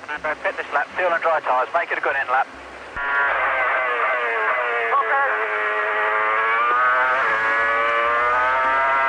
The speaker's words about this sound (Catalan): Així sona el motor del Renault número 8.